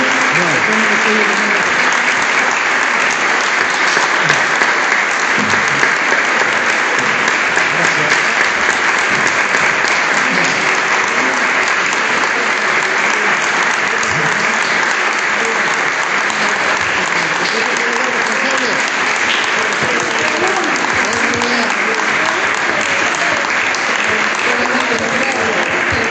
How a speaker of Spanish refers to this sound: Es nuestro equipo, un orgullo lo que han hecho, realmente orgulloso. Un aplauso para ellos.